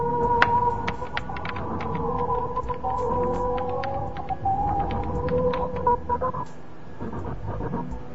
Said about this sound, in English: There are distinct blocks within each pattern, and within each block, the tones come in groups of three. It's 3-3-3, 3-3-3, it's always 3-3-3, it's always the same.